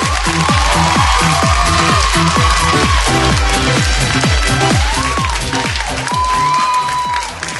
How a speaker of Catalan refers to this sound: Abans de començar, per donar-vos ànims, però us dediquem aquest fort aplaudiment. Vinga, va, ben fort!